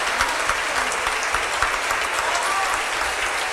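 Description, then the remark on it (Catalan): Sustained applause from an audience after a proclamation speech (pregó), a dense steady wash of many hands clapping at an even loudness throughout, with no voices standing out. “Algú dirà alguna cosa més ara, perquè després d'aquests aplaudiments alguna cosa s'haurà de dir, de ben segur.”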